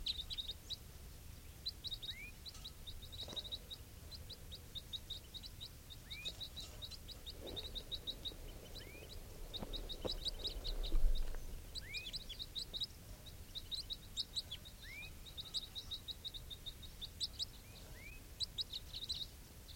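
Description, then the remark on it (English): Soft, repeated high-pitched calls and chirps from one wild bird calling softly, scattered throughout, fairly faint, over a low outdoor rumble with no talking. “Recording, these are the calls of one of the wild birds.”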